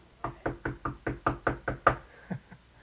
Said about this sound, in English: Someone's going to knock on your door. It's the lawnmower kid.